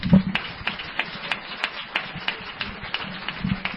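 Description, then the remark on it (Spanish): An audience claps steadily for a few seconds for a group of storytellers who tell horror tales at a Cultural Don Cecilio event, a dense patter of overlapping hand claps at an even, moderate loudness with no voices standing out. “Así que, por favor, darles un aplauso, porque José Manuel García Bautista no está.”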